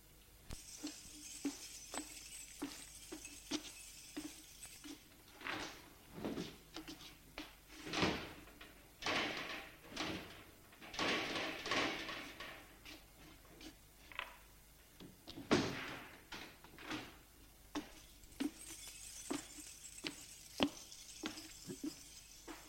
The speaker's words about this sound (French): Prend ses clés, ouvre la porte du magasin et les volets.